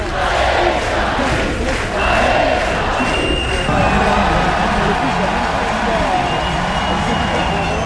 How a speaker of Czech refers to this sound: Mimochodem, tady je malá ukázka, jak Francouzi při judu na Champ de Mars fandí.